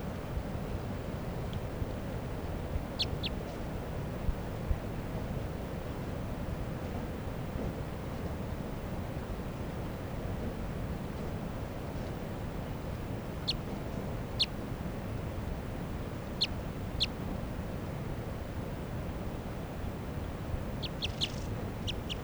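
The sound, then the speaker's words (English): Short, sharp calls of a wild female bird chirp sporadically, singly or in quick pairs, with a brief rapid cluster at the end, all over a steady low rumble of wind-like noise. No one speaks. “Wild bird.”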